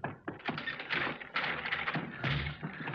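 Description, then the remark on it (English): Heavy, irregular thuds of someone pounding on a locked door, blow after blow for several seconds, fairly loud with a hollow, knocking quality and no voices. “It's no good. We couldn't break down the door with a crowbar if we had a crowbar.”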